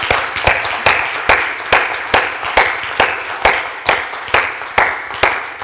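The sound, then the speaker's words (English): A crowd claps together in praise to God for mothers, sisters and daughters, in a steady, even rhythm, about two beats per second, with a continuous wash of scattered applause filling the gaps between the unified claps. “That's the way my mother used to clap.”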